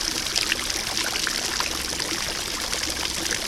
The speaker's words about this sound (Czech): Tahle fontána je vlastně obrácený zvon, do kterého dopadá voda z horních pater a rozeznívá kov. Zpívá celé léto a pro každého jinou píseň. Nebojte se, smutné nespívá. Má jenom krásné zvonivé veselé tóny.